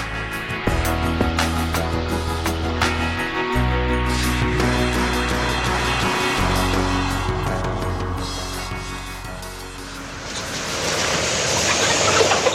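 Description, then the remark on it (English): A dense, continuous din of countless chickens clucking and squawking at an industrial chicken farm, layered over a steady low mechanical hum like ventilation fans, loud and unbroken throughout. “This is On Point, the sound of an industrial chicken farm there.”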